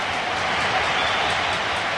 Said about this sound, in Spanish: Y lo celebra la grada como si fuera un gol. Sí, menuda ovación, mira, sí.